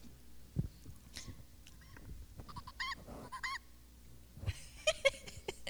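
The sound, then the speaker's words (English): A pressed toy bird gives a series of nasal, honking squawks, harmonic bursts repeating unevenly several times, with soft handling thumps and no talking in between. “So here you go. There's a bunch of birds. They all make noises.”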